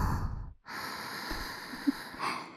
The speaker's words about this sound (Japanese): お耳に柔らかくてぬくぬくの吐息いっぱい当てるよ。